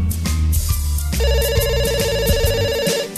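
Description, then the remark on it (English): A phone rings with a bright, repeating electronic tone, steady, playing over a busy musical backing with a low bass pulse throughout. “Is that my phone? I don't think so.”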